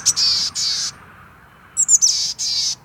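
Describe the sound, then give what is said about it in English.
A chickadee calls with a clear, high series of buzzy notes, two before a short pause, then a few quick chips and two more, against a quiet background. “The chickadees also store a lot of spruce seeds.”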